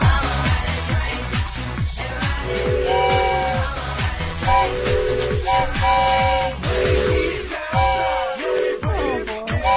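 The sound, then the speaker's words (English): A train whistle blown by Edie McClurg on the Stephanie Miller Show sounds in several sustained, chord-like blasts, repeating every couple of seconds over a busy, rhythmic chugging background. Loud, with no one talking. “That's Edie McClurg on a train whistle to come on ride the train.”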